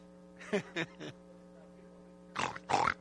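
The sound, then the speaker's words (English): A man's voice imitates hogs grunting and snorting over slop: three short guttural grunts, a pause over faint steady hum, then two louder, longer snuffling grunts. “You know, out all them pigs, that's the way them pigs do.”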